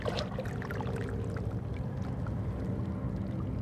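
Calm seawater sloshing and gurgling softly through crevices among large rocks full of barnacles and seaweed at Kitts Beach in Vancouver, on a calm, windless, slightly overcast, mild January morning; a steady wash with scattered tiny clicks from the water meeting feeding barnacles, and drips, no voices.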